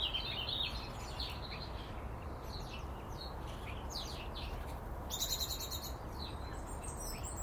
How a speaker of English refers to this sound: There's lots of activity, massive activity, and now more song, so are the birds getting as excited as I am about spring?